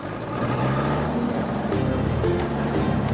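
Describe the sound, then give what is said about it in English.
A mobile generator's small engine, finally started after being reluctant to fire up, runs steadily with a loud, continuous droning rumble, its low mechanical hum holding without a break throughout. “A mobile generator is reluctant to fire up.”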